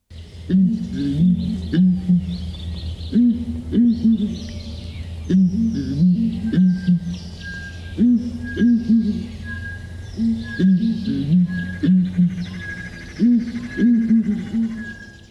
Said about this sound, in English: Communication is extremely important for hornbills. Their deep, booming call is especially distinctive. Listen for yourself.